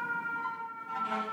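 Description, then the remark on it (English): A fire truck siren wails steadily with a bright, tonal whine, holding at a constant level through a short stretch, with no voices over it, as several fire trucks pass right by a window on the way to a fire in the neighborhood. “Like when the sirens stop, you know the trucks have stopped”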